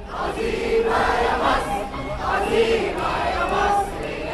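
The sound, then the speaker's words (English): A huge outdoor crowd of Egyptians in Tahrir Square, Cairo, chants and sings together after the military announced its takeover, also launching fireworks; voices rise and fall in rhythmic waves, loud and dense, with a steady roar of many people. “As crowds sang, chanted, and launched fireworks in Tahrir Square.”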